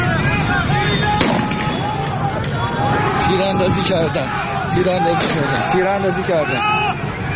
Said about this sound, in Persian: در بعضی از ویدیوهایی که منتشر شده، همونطور که در این مورد شنیدیم، یه صدای تیراندازی به گوش میرسه و همینطور برخورد نیروهای امنیتی گزارش شده با معترضان، یعنی واکنش نشون دادن به اعتراض‌ها.